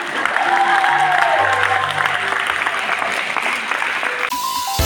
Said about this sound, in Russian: Я так думаю, больше всего я люблю аплодисменты.